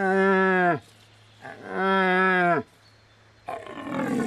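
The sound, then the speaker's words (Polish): Two drawn-out, moaning roars from a young red deer stag during the rut, each about a second long with a falling end, followed by the start of a rougher third call; loud, no talking. “I obok tych mocnych jeleni są tak zwane chłysty, młodsze byki, które bardzo często próbują naśladować głos starego byka, porykują głosem młodego.”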